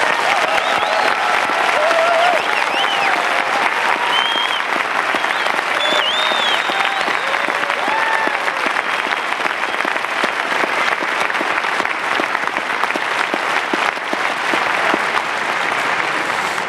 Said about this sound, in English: will you stand up so that we can give you an applause as well?